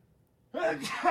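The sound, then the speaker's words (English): A single sudden sneeze breaks a brief quiet, with a quick voiced intake rising into a sharp, hissy burst. It is fairly loud, and a short voiced tail follows. “Bless you.”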